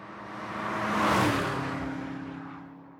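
A single car approaches, swells to a loud whooshing peak as it drives past, then fades away down the road, with the engine's tone dropping as it recedes. No one speaks.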